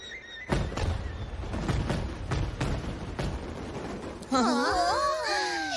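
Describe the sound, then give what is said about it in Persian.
Fireworks explode in a rapid, irregular run of loud booming bursts, followed by a cluster of shrill whistling tones that sweep up and down as more rockets go off. “آتیش بازی معرکه ای.”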